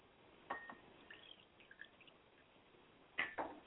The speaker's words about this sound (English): I pour libation now to the east, and I say Ashe. I pour libations to the west, and I say Ashe.